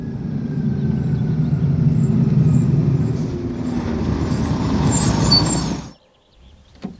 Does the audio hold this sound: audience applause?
no